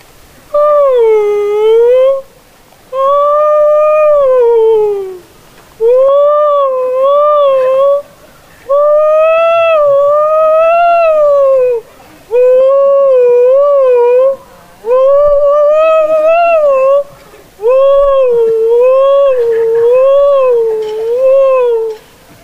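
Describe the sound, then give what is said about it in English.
A voice imitates whale song with a string of long, wavering, tonal moans, roughly eight phrases separated by brief pauses, loud with no other talking. “And so, they sit down and they order a couple beers. And one whale goes to the other.”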